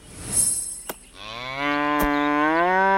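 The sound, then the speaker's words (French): A cow lets out one long, loud moo, rising slightly in pitch and holding steady, after a brief rustle and a sharp knock at the start. “Attention, mesdames les vaches! Je suis juste sous vos pieds!”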